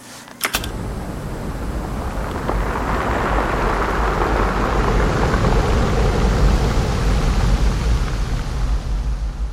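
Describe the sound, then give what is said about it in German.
A steady, low, booming roar of surf heard through a large driftwood spruce log at Rialto Beach, recorded with a microphone held inside the log. The waves do not hit the log; their roar makes the wood vibrate. A dense rumbling wash swells slightly and holds constant, opening with a sharp knock. “Die Wellen treffen zwar nicht auf die Stämme, aber das Tosen der Wellen bringt das Holz zum Vibrieren.”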